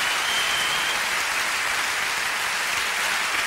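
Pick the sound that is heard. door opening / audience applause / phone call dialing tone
audience applause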